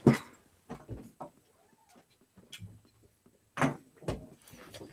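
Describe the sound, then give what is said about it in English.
A female dog gives a brief, faint rising-and-falling whine, wanting to be let in, amid louder scattered thumps and door-like knocks, with some scratching and bumping and no one talking. “The dog whines. See, now she wants in, she wants out.”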